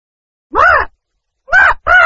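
A parrot squawks three times, loud: one harsh call, a brief pause, then two more in quick succession, with no talking.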